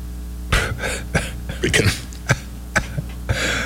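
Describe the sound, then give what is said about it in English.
A person coughs repeatedly after a bad swallow, around half a dozen harsh, sputtering bursts at uneven intervals, mixed with throaty clearing sounds and no speech. “Had a bad swallow there.”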